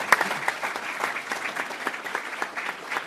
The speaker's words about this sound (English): Round of applause for Senator Raul.